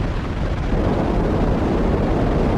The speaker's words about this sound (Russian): Ракета-носитель «Спутник», модификация «Семерки», с гулом ушла вверх. Ее факел постепенно ослабел и скоро стал неразличим на фоне звездного неба.